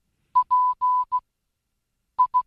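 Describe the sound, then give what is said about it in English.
Morse code beeps in a steady mid-pitched tone: a short, two long and a short pulse, a pause, then more quick short beeps. No voices, just the clean tone against silence. “You have just received a Morse code version of...”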